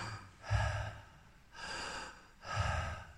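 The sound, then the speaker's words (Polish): Three loud, deliberate breaths, each a long breathy rush of air with a low rumble at the start, spaced about a second apart, with no talking, as a person breathes audibly after being asked to do it louder. “Oddychanie jest dowodem, że żyjesz.”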